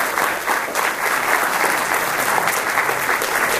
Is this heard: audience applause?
yes